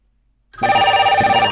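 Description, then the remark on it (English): After a brief silence, a loud, dense ringing of several telephones at once, including wireless phones, bursts in and keeps going, their overlapping bell tones trilling rapidly together, with no one talking. “Ringy dingy dingy ding goes literally everything. Well, except the phone, which is not open. There's the wireless phones.”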